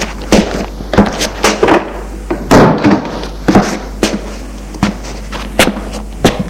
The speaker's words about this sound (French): Ils entrent, ils ferment la porte.